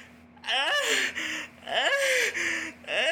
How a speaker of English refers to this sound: God, I wish I could stop doing that yawning, y'all.